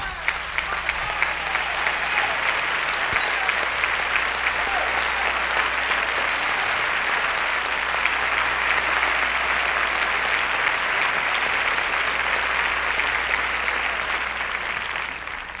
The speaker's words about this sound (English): In the rear, ladies and gentlemen of this beautiful, beautiful, beautiful string section, will you please stand and accept your just applause?